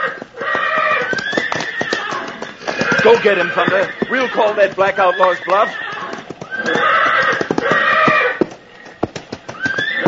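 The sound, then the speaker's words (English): Stallions, one named Thunder, whinny with loud, shrill, wavering neighs over a steady rhythm of clip-clopping hooves as they square up to fight, while a man speaks briefly in the middle of the commotion. “Seems our friend the stallion is on the warpath.”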